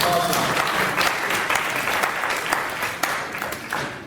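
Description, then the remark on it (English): An audience applauds steadily for about four seconds, a dense, even crackle of many hands clapping at a fairly loud level, with some cheering voices mixed in, at the opening of the first AI room at Bob's Day. “Yay! Cheer. There we go.”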